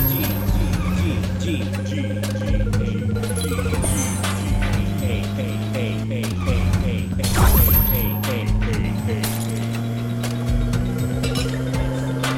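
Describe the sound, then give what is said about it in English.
Traffic cones in a video game getting knocked over: a string of sharp, irregular plastic clacks and thwacks, with one louder crash near the middle, over a steady, low engine drone. “These cones make a weird noise when you knock them down.”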